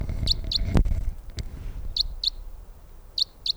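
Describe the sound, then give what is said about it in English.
A female crossbill flying overhead, directly toward the listener, gives sharp, high flight calls in three quick doubled bursts, kip-kip, spaced a second or so apart, over faint low rumble with a single thump early on and no talking. “In the 306 flight call. Here comes a crossbill directly for us.”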